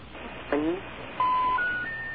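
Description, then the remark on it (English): Telephone tones of a call placed during a radio show, over a noisy, hissy line: a brief warbling chirp, then a run of steady electronic beeps stepping upward in pitch, each held for a moment. “Okay, I believe what we got the first time was we just didn't get the recording or something because it made the same kind of a noise and it just never connected to anything.”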